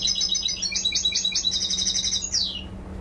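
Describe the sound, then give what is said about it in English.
A bird sings a rapid, continuous run of high trilling notes ending in a descending flourish, played on a laptop through small speakers aboard a camel boat crossing the Red Sea from Djibouti to Jeddah, over a low steady engine hum. “So this engineer was listening to bird songs on a laptop when you met him.”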